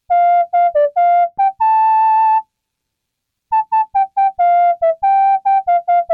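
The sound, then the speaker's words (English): A synthesized MIDI whistle plays a bouncy pop melody in short, clipped notes and one held tone, pauses for about a second, then resumes the tune. Loud, with no voices. “Digging the MIDI whistle check.”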